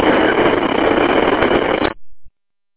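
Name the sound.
car engine running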